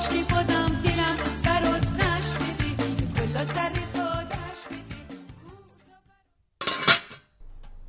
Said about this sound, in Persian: در قابلمه رو بر میدارم.